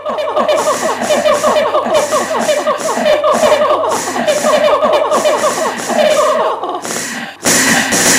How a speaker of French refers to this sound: Et ensuite, on va directement basculer sur le reniflement où là, c'est un autre délire. Écoutez.